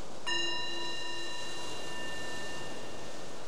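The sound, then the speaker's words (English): A single meditation bell is struck once and rings out softly, its clear shimmering tones slowly fading over a few seconds against a quiet background. “So the bell is the invitation to bring the awareness back to the surface, maybe to your surroundings, and noticing whatever your experience was there, what might have been helpful or informative.”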